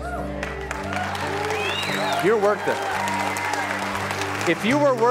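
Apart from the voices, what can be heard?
audience applauding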